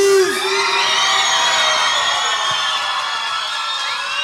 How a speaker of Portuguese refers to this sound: Então, quando ele entrar no palco, eu queria que vocês recebessem ele com palmas bem alegres, amém?